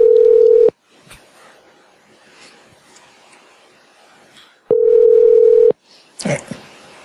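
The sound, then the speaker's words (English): A phone line's ringback tone sounds twice, each steady buzzing burst lasting under a second with quiet line hiss between, followed by a brief clatter as if the receiver is picked up. “Answer the phone”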